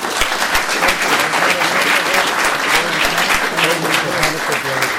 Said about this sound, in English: And thank you for the League of Women Voters for helping us. Thank you. I think we owe them all a round of applause.